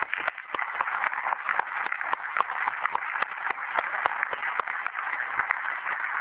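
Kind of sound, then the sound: crowd, audience round of applause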